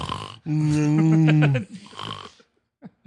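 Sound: imitated snoring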